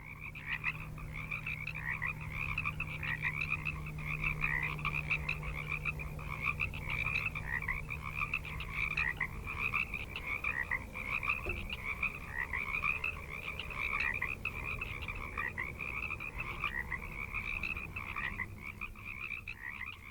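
A dense chorus of frogs croaking continuously, a seasonally recurring natural sound used by Murray Schafer on a double LP on acoustic ecology; many overlapping pulsing calls form a steady, buzzing wall of sound with a faint low hum underneath and no voices.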